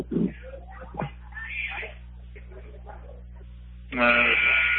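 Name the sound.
basketball game buzzer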